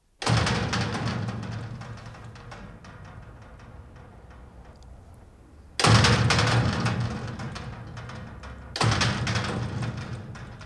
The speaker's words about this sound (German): Ja, wir haben beispielsweise ein großes Eisentor am Hof aufgenommen. Das klingt dann so.